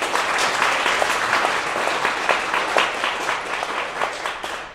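An audience at a singing concert applauds steadily, many hands clapping in a dense, even patter that holds at a fairly loud level for the whole stretch, with no voices heard.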